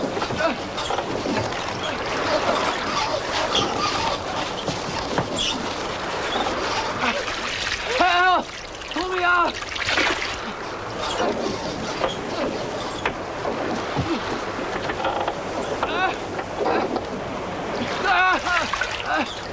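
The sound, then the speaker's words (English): Steady, loud rushing and churning of sea water as a man tied to a line is towed astern of a ship through it, with sloshing surges and occasional shouting voices over the wash. “Tied to a line, … is tossed into the sea and towed astern.”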